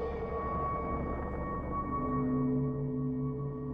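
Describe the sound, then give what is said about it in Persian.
Humpback whale song echoes underwater at night, spreading through the water: long, steady moaning tones with several layered pitches, one rising toward the end, over a constant low rumble of water. “این صداهای شگفت‌انگیز از نهنگ‌های گوش پشت در سراسر آب پخش میشه.”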